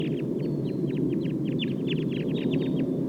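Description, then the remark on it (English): A wild flock of about 11 birds calls steadily, many short, rapid downward-sweeping chirps overlapping in a busy chatter, over a constant low rumbling background noise. “Start recording the wild flock now.”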